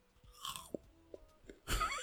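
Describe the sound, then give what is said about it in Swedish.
Chewing of frozen grapes: a few sharp crunches and wet clicks spaced irregularly, ending in a louder, noisy crunch burst, with no talking. “Jag sitter och äter frysta druvor. Lyssna på det.”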